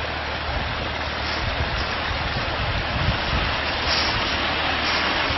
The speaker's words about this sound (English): Another wonderful waterfall. Wonderful waterfall.